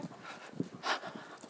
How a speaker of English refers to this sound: Good boy, big doggy. You're doing so well.